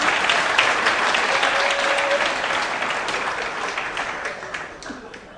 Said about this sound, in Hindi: ताली नहीं बजाते, ताली बजाओ, ताली बजाओ।